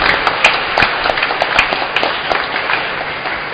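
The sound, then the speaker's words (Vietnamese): An audience at a Mass claps for the ministers, a dense wash of many hands with sharper individual claps popping out, sustained at an even level throughout with no voices. “Xin cộng đoàn chúc mừng một tràng vỗ tay thật lớn.”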